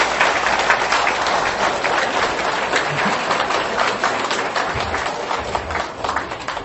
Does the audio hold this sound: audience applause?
yes